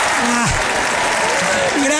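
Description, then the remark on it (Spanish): An audience claps steadily for about two seconds, a dense, loud wash of applause that holds throughout, while a voice sounds faintly over the clapping. “se esforzó tanto y ni un aplausito le dieron por su entrega”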